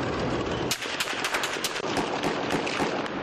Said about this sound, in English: The sound of gunfire turned out to be bullets targeting TV reporters.